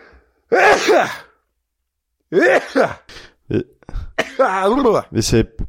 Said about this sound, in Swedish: Nu kommer jag att nysa här, så exalterad blev jag.